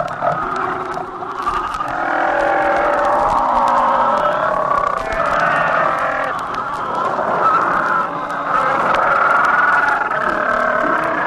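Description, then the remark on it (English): A dense chorus of about 3 million fur seals mating on the rookeries of the Pribilof Islands, Alaska, packed on narrow rocky beaches, bellowing and bleating over one another, a continuous loud din of overlapping harsh, wavering calls with no pauses, like a noisy crowd of animals. “The mating sounds of 3 million seals on the rookeries of the Pribilofs.”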